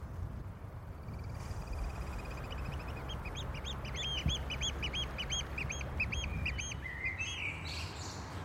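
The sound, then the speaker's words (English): Oystercatchers give a rapid run of shrill, piping calls, several birds overlapping, above a steady low rumble of wind or surf. No one speaks. “Sound of oystercatchers there.”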